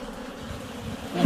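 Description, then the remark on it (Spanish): A steady, dense drone of bees buzzing inside a hive as a beekeeper in a protective suit inspects it, a continuous low hum with many overlapping wingbeats, swelling slightly louder toward the end. “Me escucha el ruido ensordecedor.”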